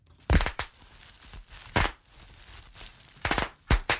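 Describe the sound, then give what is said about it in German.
Small bubble wrap popping in sharp, crackly bursts: a quick pair of pops, another single pop, then two more close together near the end, with quiet rustling between. “Ich habe doch da hier als erstes im Angebot die kleine Blubberfolie.”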